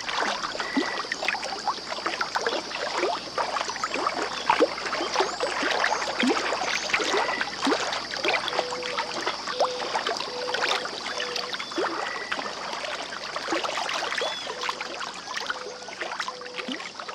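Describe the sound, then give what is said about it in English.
Steady riverside ambience at Iona Island, a bird sanctuary in Bear Mountain State Park at Stony Point, New York: water lapping and trickling, a constant high drone like insects overhead, and scattered short bird calls repeating. No one speaks. “Iona Island, a bird sanctuary that's part of Bear Mountain State Park at Stony Point, New York.”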